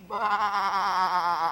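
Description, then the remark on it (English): A single drawn-out sheep bleat, wavering and nasal, lasts about a second and a half, with no other sounds around it. “That makes four sheep.”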